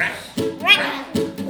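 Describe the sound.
A voice imitates frogs croaking with a few short, throaty calls, one rising and falling in pitch, set between brief percussive bursts.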